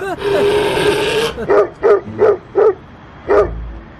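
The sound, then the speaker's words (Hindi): A dog loose in a courtyard gives one long, drawn-out harmonic cry, then barks four times in a quick, even rhythm, pauses, and lets out a final bark. The barks are loud, with no talking. “नहीं मोहतरम, वो सहन में कुत्ता खुला हुआ है, दरवाजा खोलूंगा तो यहाँ चीर फाड़ जाएगा।”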